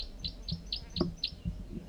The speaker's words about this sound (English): Bird 4-3 gives calls.